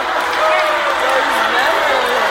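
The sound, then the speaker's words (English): A large stadium crowd at the University of Florida roars continuously, a dense wash of many voices that shifts from cheering toward low, drawn-out booing and jeering, loud and sustained with no single voice standing out, reacting to a person dancing. “It's turning into jeering and booing.”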